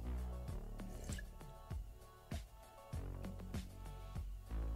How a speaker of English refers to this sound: Let me take a quick sip of the old water here.